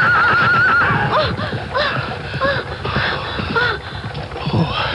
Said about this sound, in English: You, look out! Get out of the way, girl, the chariot!